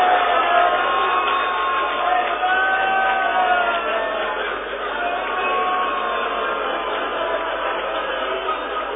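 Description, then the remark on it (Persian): A large crowd shouts together in a loud, sustained roar of many voices that holds steady for the whole stretch with little rise or fall. “جانم به با غیرت ها که فریاد می زنن.”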